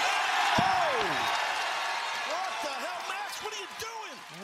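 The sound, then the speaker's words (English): A sharp, heavy thump as the champion slaps a microphone out of a wrestler's hand during the Hangman Page and MJF opening segment of AEW Dynamite, followed by faint knocks, all under a loud, roaring arena crowd with swooping whistles. “Lovely character note for MJF, going for his tried and trusted ways, only for the champion to slap the mic out of his hand”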